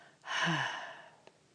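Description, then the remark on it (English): A single deep breath pushed out through the mouth, a soft airy whoosh that swells quickly and fades over about a second, fairly clear with no talking. “These natural sounds of breathing are the very sounds made by the four Hebrew letters in God's holy four-letter name, the Yod-Heh, Vav-Heh.”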